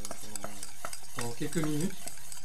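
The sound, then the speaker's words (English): A whisk beats eggs and sugar in a bowl with quick, uneven scraping strokes and soft clicks, briefly joined by a faint, wavering squeal midway; no one speaks. “Là, ça en mélange, vous entendez certainement le bruit.”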